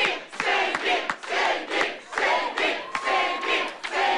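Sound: crowd of supporters cheering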